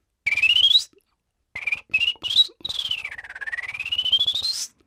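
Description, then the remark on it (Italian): A person whistles a fast, trilling virtuoso melody imitating a bird, with rising sweeps and quick warbled bursts separated by short pauses, fairly loud, no talking. “Si è mangiato un fringuello? No, sì, è un virtuosismo, perché c'è un uccello preciso a cui si riferisce probabilmente, sì.”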